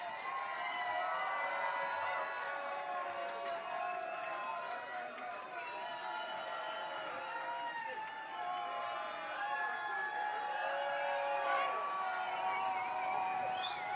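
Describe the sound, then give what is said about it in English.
A concert crowd at a KVNF Live show keeps cheering for an encore after the band's set, a steady wash of overlapping shouts and whoops that holds at an even loudness for the whole stretch, with no single voice standing out. “And the crowd's not ready to be done.”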